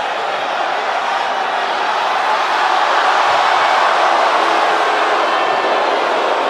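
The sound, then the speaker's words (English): A large arena crowd boos wrestler Kevin Owens loudly and continuously after he tears up Chris Jericho's list, a dense, steady roar of many voices that fills the whole stretch without letting up. “He tears the list of Jericho, and he gets booed. Listen to this crowd.”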